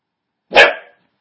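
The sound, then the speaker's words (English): A single loud, sharp dog bark, a short burst with a quick trailing tail, surrounded by silence. “That's Shiloh. I'm babysitting. She barks at every little noise.”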